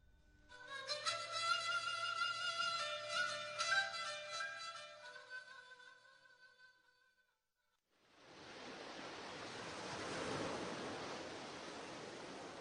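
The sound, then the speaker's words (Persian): Music plays for several seconds, then falls silent. A steady, rushing wash of open-sea waves breaking on the shore at Chabahar, Iran, fills the last few seconds, loud with a gentle swell. “اگر دوست دارید در کنار آب‌های آزاد قدم بزنید و از تماشای ساحلی بکر و شهری نشده لذت ببرید و صدای امواج را بشنوید و از برخورد آب به صخره‌های سنگی عکس بگیرید، به چابهار بیایید.”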